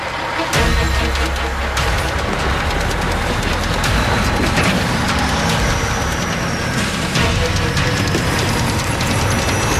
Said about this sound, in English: The King's got to pull the rig out with his screaming Ford